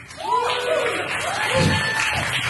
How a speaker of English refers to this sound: I think they're clapping more for the movie than for you.